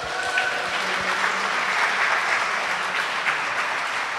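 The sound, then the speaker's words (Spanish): Sustained audience applause fills the whole stretch, a dense, steady clatter of many hands clapping at moderate loudness with no voices standing out. “¡Aplausos a los cafeses!”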